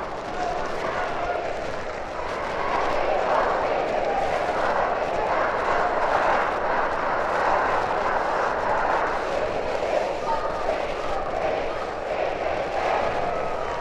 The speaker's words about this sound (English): The horn signifies the end of the first quarter, with Freeport leading Moline 22-15. Here comes a big Freeport cheer.